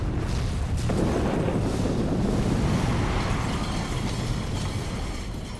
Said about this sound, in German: In diesem Moment zündet ein Arbeiter in Oppau die Lockerungssprengung.